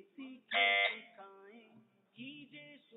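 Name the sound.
quiz buzzer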